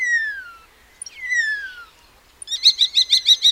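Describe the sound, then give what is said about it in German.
Starlings (Sturnus vulgaris) from a flock calling clearly with no talking: two drawn-out descending whistles, then a quick run of six or seven chattering notes. “Zu treuen Freunden der nicht nur als Koordinationsweltmeister faszinierenden Stare gehören Antonia Köhnen und Philipp Juranek.”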